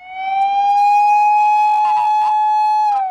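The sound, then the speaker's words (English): A loud, steady emergency vehicle siren holds one sustained tone, with faint clattering and background noise underneath; no one speaks. Sirens of rescue workers trying to reach the worst-hit areas after an earthquake on the Noto Peninsula. “Sirens filled the air as rescue workers tried desperately to reach the worst-hit areas where people are trapped under their collapsed homes, some dead, others, it's hoped, still alive.”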